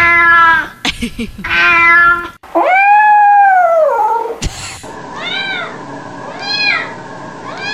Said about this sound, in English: I feel poorly for all of these cats. Why? They sound like they're in heat. They're having fun. They might be. It's time for the sex.